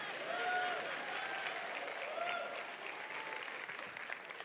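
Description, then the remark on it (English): An audience claps steadily during a sermon, a dense wash of many hands sustained at an even level for several seconds, with faint voices and cheers mixed in. “Don't you applaud for her.”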